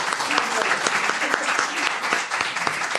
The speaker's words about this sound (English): A round of applause. Yeah, thank you.